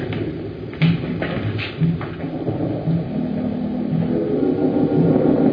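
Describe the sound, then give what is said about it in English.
A deep, continuous rumble of thunder from a rising storm coming up over the mountains, with the air heavy with electricity. It rolls on without pause, steady and fairly loud, with a few brief sharper crackles near the start and no voices. “The storm is rising. All right. The air is heavy with electricity. It's going to be a terrific storm.”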